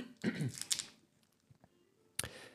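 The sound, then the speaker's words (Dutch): Crinkling and rustling of a paper wrapper being opened as someone takes candies out of it, with a cluster of crisp crackles at the start and another sharp rustle near the end, a murmur of voice underneath. “is snoepjes uit een papiertje aan het halen. En dat hoor je.”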